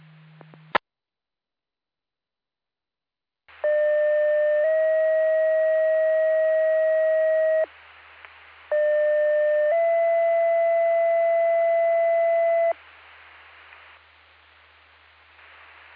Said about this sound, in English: This is your weekly pager test testing for Earlville Fire and EMS Department. Please disregard the tones and reset your pagers.